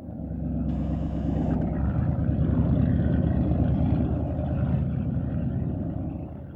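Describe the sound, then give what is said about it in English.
A motorboat engine is started from the driver's seat and rumbles loudly and steadily, a deep continuous drone with a brief higher whine early on, as the boat starts to move from the dock. No one speaks. “My uncle got on the driver's seat and started up the boat. It started to move.”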